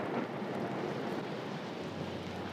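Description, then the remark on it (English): Storm noise: a dense, steady hiss of rain and wind holding at an even, fairly loud level for the whole stretch, with no sharp thunderclap standing out and no voices. “Did you ever watch the coming of a storm?”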